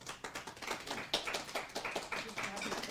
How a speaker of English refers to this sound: got a bigger clap than that